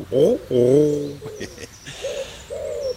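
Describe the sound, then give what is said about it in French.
A pigeon coos in a few low, throaty notes: two fuller calls first, then softer, drawn-out coos after a short pause, with faint background noise. “Merci pour tous ces messages, y compris celui de ce charmant pigeon.”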